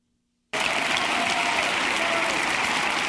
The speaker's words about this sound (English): And yet, he gets applause. I guess that's applause for being close enough.